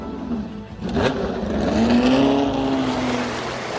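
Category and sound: vehicle, sports car engine revving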